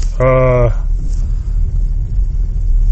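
A steady, low engine rumble and road noise from a car driving in traffic, lighter than usual, behind a blacked-out Honda Civic with no license plates, with a brief pitched, buzzy tone near the start.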